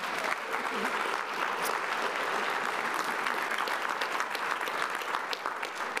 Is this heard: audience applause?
yes